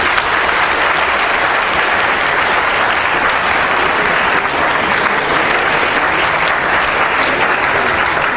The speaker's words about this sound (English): So please, a big round of applause for all our speakers.